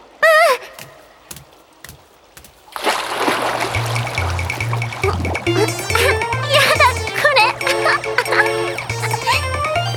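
After a quiet opening with a brief knock, hot water in a jet bath at a bathhouse starts churning and bubbling steadily as air bubbles are blown into it, a busy gurgling wash that continues over a bouncy, rhythmic musical backing.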